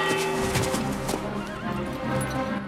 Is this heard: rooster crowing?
no